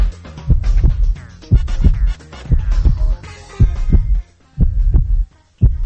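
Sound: human heartbeat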